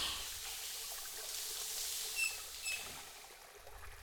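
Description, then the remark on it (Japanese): Soft, steady shower water streams and patters continuously as it rinses soap foam off a body, with two faint high squeaks partway through and no talking. “はい、これで体についた泡はきれいさっぱり洗い流せたね。”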